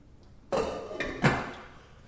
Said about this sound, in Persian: من این ظرف رو میذارمش روی گاز و زیر گاز رو میذارمش این شده کوچیک، حرارت زیادی لازم ندارم، زیر گاز رو روشن میکنم و چنگش میکنم. تموم شد. در قابلمه رو میذارم.